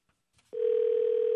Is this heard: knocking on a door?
no